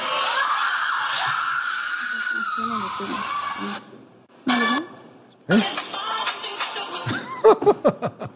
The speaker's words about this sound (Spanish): Sonó su teléfono y se dieron unos gritos horribles como infernales de violencia. ¿Qué es lo que sucede? ¿Qué pasa?